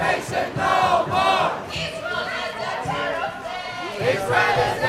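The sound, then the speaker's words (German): A crowd of demonstrators at a Nakba Day rally in the capital chants loudly in unison, shouting "Israel ist ein Terrorstaat" in repeated rhythmic bursts, with many voices blending into one forceful chorus. “In Sprechchören rufen die Demonstranten: Israel ist ein Terrorstaat.”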